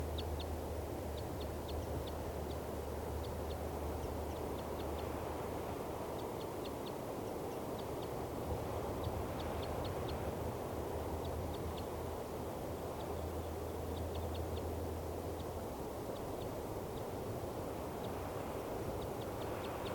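A bird, tagged as bird 395, gives bursts of rapid, high-pitched chittering calls in response, repeated in short clusters throughout, over a steady low rumbling hum. No one speaks.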